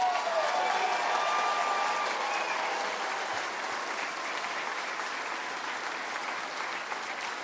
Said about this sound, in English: My mom passed away in 2009. Please give my mother a round of applause.